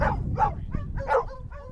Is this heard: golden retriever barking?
yes